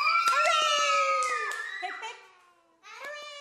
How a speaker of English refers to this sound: Now, listen, guys, before we go, I want three big cheers for our children who are leaving. Hip, hip.